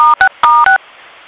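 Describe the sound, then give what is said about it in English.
Four short, loud telephone keypad DTMF tones in two quick pairs, each a clean dual-pitch beep, followed by a faint hiss of line noise. No one speaks. “As you know, you can mute your phones by pressing the button 6.”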